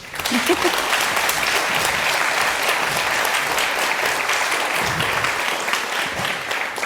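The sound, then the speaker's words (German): An audience claps steadily to welcome a speaker giving a talk, a dense, sustained wash of applause that stays loud and even for several seconds with no voices on top. “Das heißt, begrüßt bitte mit einem ganz, ganz großen Applaus”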